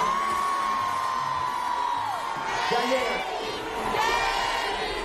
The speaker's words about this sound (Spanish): Me dicen que están bajando ya por Plaza España. Vamos a darle un grito para que nos escuchen desde la Plaza España. ¡Grito fuerte, fuerte, fuerte!